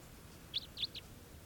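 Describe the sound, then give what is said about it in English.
A wild bird's raspy call: three short, rough notes in quick, slightly uneven succession, faint over a steady low background hiss, with no talking. “That was the wild bird. It's got a kind of a low raspy call.”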